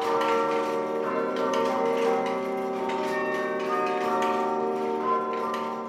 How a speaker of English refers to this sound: Of course, I like it very, very much. They remember me, the history of the area, especially our country, Palestine, with all religions. And I appreciate these bells, yes, always.